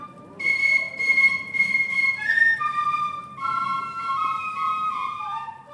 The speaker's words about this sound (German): Und prompt, ich stand am Spalenberg und sah, wie mir eine Gruppe Pfiffer entgegenkommt. Ältere Knaben wie ich und sie pfiffen einen wunderbaren Lumpensammler. Ich laufe hinterher, mit Aufnahmegerät und ohne Kostüme.